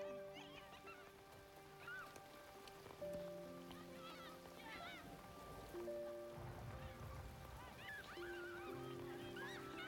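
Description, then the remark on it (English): Steady rain falls in the background, a constant hiss beneath loud, repeated honking calls from geese and sustained droning tones, with no voices. “They don't mind just standing there in the rain.”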